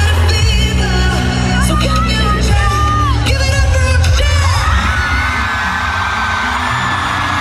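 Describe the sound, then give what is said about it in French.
A concert crowd in Antwerp, Belgium, cheers wildly during a European tour concert, a dense roar of screams, whoops and yells that stays loud and steady throughout, with high shrieks rising and falling over low, booming noise. “Voilà, donc une foule en délire, évidemment.”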